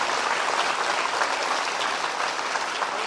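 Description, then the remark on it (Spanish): A crowd claps steadily for couples celebrating 46 years of marriage, a dense, even wash of many hands that stays loud and continuous throughout with no pauses and no voices standing out. “A esos también se les puede dar su aplauso, 46.”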